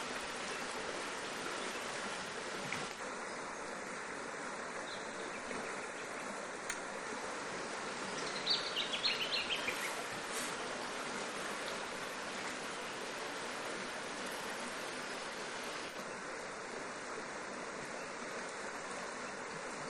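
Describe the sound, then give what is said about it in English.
Steady, continuous rush of flowing river water fills the whole recording, even, with a faint high chirping or hiss drifting in and out and no voices. “Because you need a picture of a river in your mind.”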